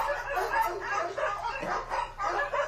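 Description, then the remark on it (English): A rapid run of dog barks played from a soundboard, several overlapping yaps and woofs in quick bursts, fairly loud, with no talking underneath. “You have the weirdest variety of soundboard I've ever heard in my entire life.”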